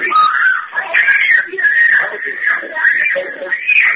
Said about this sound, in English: That's an example of torture that my family's going through. And that's one of your children screaming as they're trying to rip the child out of your arms, right?